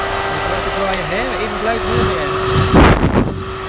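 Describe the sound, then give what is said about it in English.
A 1942 hairdryer, plugged into a mains socket, whirs steadily with a constant motor hum and airy rush, running throughout while people talk over it, with a brief louder burst near the end. “It's actually a 1942 hairdryer, which will plug into the main socket there, and lo and behold, it will go.”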